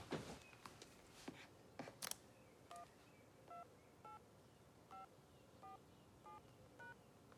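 A handful of quick handling clicks, then a phone number being dialed to call Intecline Capital Partners: a steady series of about nine short touch-tone beeps, evenly spaced, with no talking.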